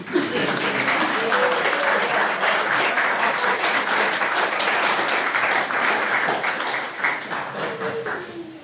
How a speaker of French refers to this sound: Et je veux vraiment saluer de façon particulière toutes les familles présentes ici. Vraiment, un applaudissement pour les familles.